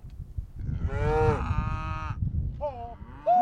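Cows moo loudly and close by, one long drawn-out low call followed by shorter overlapping moos from other animals, over a rumbling outdoor background.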